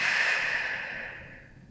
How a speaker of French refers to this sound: Prends maintenant une profonde inspiration par le nez, puis souffle énergiquement par la bouche.